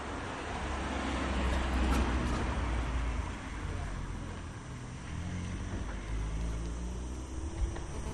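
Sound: car driving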